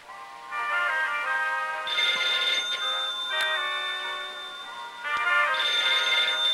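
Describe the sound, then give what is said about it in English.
A telephone on a bedside table rings loudly with a bright electronic ringtone, its warbling tone repeating in steady bursts over several seconds, with no one speaking. “Behind her, a phone sits on a bedside table. As Melba focuses on her puzzle, Shooter answers the phone”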